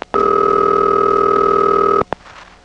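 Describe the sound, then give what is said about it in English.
A telephone ringing tone heard down the line as the final switch of a panel telephone switching office rings: one loud, steady, buzzy ring lasting about two seconds, cut off by a sharp click, then faint line hiss. No one speaks. “And by now, the final switch has begun ringing.”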